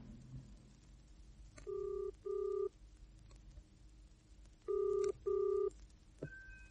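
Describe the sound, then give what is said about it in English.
A telephone ringing tone heard down the line on a call from a phone box, two double burrs separated by a pause, then a steady tone begins as the line connects; no voices, just faint background hum. “Look, there's a phone box. I'll call the police anonymously and tell them what we saw.”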